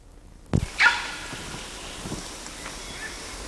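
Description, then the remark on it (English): A single sharp, hoarse bark from an adult male animal about 25 to 30 meters away, preceded by a brief thump, with steady outdoor wind hiss filling the background and no other calls. “That was a bark from adult male ND, verging on being a quist.”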